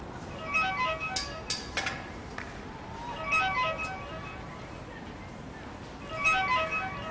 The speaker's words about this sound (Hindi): किसका मोबाइल यहाँ रह गया है? सुबह से अब तक 10 बार बज चुका होगा, उठा लीजिए, शायद इसके मालिक का फोन हो।